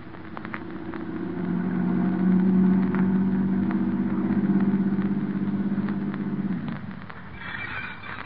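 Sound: car engine running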